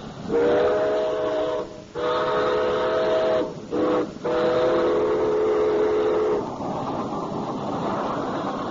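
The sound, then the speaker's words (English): A steam whistle blows in several long, loud blasts with brief gaps, one short toot between them, over a steady hiss and rumble of a train coming in, then the whistle stops and the rumble continues. “I think there's a train coming in.”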